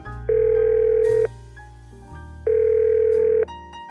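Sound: phone call being dialed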